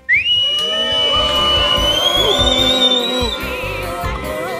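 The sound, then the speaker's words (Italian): The live audience of the Suggeritore Night Live show lets out a loud, sustained barrage of shrill jeering whistles, many overlapping pitches sliding and wavering together for several seconds, with no talking over them. “Chiedo al pubblico di fare dei fischi.”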